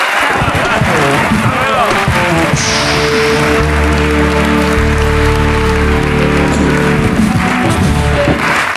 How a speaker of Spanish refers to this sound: Un aplauso para esa gente también de ahí.